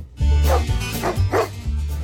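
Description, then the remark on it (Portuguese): A small dog, just waking up at 6:23 in the morning, barks several times in quick succession, fairly loud, with short yappy bursts over a low background hum and no voices. “Ó, o cachorrinho ali também acordando.”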